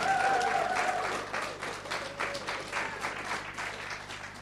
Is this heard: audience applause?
yes